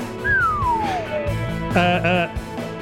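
A person whistles one long note into a microphone, the note sliding steadily downward over a busy background. A short voiced sound follows.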